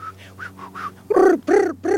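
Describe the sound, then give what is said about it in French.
A honeyguide bird answering honey hunters' calls chatters in a quick series of faint, high chirps, followed by three loud, harsh, drawn-out calls in a steady back-and-forth rhythm. “Les humains et les oiseaux se répondent les uns les autres, ils se parlent.”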